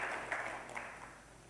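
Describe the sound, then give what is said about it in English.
A crowd claps for Jesus together in a steady wash of applause, fairly soft, with a few sharper claps standing out before it gradually thins and fades. “Listen, yeah, you can clap. Clap for Jesus.”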